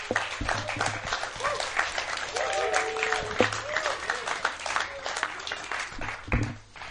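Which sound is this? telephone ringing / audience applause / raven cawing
audience applause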